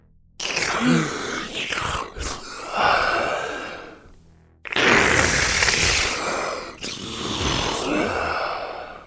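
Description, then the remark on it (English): Heavy, raspy breathing heard over a mobile phone call on which no one responds: two long, strained breaths with a brief pause between, each rough and hissing like noisy static, with no voices. “All you would hear is a strange breathing, followed by static.”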